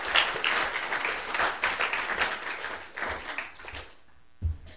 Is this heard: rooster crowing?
no